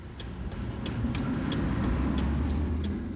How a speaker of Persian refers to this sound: سواری را پارک می کند.